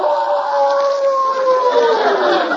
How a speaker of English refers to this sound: Oh. Wolves? Yes, but they won't attack you unless they're hungry. That one doesn't sound like he just finished eating at Lindy's, does he?